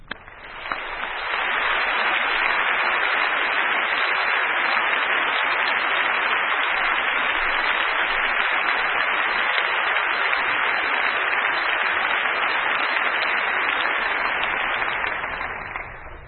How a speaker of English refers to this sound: And in appreciation for the service that he has rendered to his country in Iraq, I wish you would give him a nice round of thanks by your applause as he comes to preach for us today.